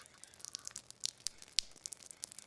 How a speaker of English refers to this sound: The winds haven't yet arrived, but we've had close to another inch of rain here at the farm overnight. And standing at the front of the garage in the middle of the farmyard, and the water is overflowing the gutters.